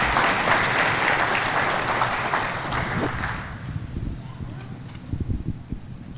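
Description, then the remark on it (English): A crowd claps for people who shared their story, with dense, crackling applause for about three seconds, then it thins out into scattered claps and low murmuring. “Would you give a clap offering for them?”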